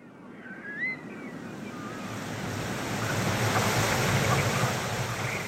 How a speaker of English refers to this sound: There was a rush of icy cold water across my feet. It was not my imagination. The tide was coming in.